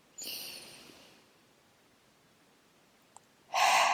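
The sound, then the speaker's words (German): A slow, deep breath drawn in through the nose, a pause of near silence, then a strong, airy exhale starting at the end, with no talking. “Einmal tief atmen.”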